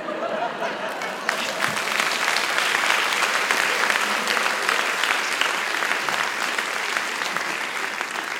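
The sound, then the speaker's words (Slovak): An audience bursts into applause, quieter for the first second and then a dense, steady clatter of many hands clapping that holds at a strong level to the end, with no talking. “Ten potlesk ma teraz nepokojil.”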